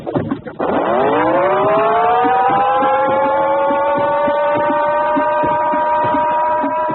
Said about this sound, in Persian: علامتی که همه تون میشنوید اعلام خطر یا وضعیت قرمز است و معنی و مفهوم آن این است که حمله هوایی انجام خواهد شد. محل کار خود را ترک و به پناهگاه بروید.